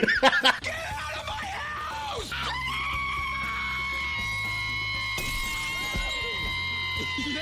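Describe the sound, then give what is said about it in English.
A person imitates an actor's scream of "Get out of my house!": a long, piercing, high-pitched scream, sustained and steady for several seconds after a few shorter rising yelps, loud with no other talk. “Dude, he's like the guy that's like the most ripped in that show, but he has like the highest pitch scream, dude.”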